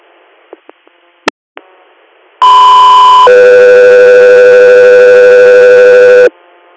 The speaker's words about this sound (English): Echo 3 Air, stand by for tone.